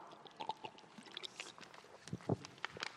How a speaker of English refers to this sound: Okay, I got to take a drink for this. Everyone who knows me knows I couldn't get through this without a sip of water.